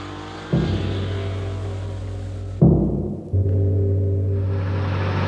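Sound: car engine driving away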